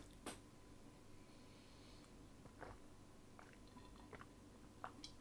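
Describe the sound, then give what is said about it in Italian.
Someone takes a sip of water: a few soft, wet gulping and swallowing sounds scattered over a few seconds of near silence, with a sharper click at the end. “Allora, aspetta, fatemi bere un po' d'acqua.”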